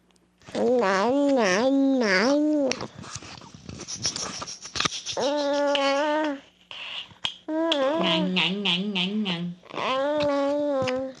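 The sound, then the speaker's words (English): A baby babbles in four bursts of repeated, alternating consonant-vowel syllables such as nya and ah, high-pitched and rhythmic, with short pauses and breathy noises between the runs. “The reason this is babbling is that for the first time we hear sounds that are clearly like consonants and vowels.”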